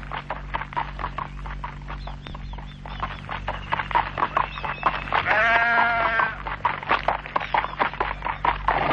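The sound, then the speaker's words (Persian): A lone, lost sheep lets out one long, wavering bleat partway through, fairly loud, amid a steady stream of quick tapping and clattering sounds. “این گوسفند چرا اینجا تنها مونده؟ این گوسفند گم شده”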